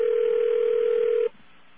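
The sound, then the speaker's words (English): A steady, loud telephone dial tone hums continuously for over a second, then cuts off abruptly, leaving faint line noise behind. “Okay, let's get a real dial tone.”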